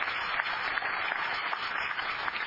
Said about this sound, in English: Are you a visitor in the balcony? If so, will you stand? Okay, well, let's give our visitors a nice round of applause.